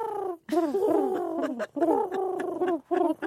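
A pigeon coos in a run of soft, throaty, warbling phrases, three or four bursts with brief pauses between, fairly clear with no one talking.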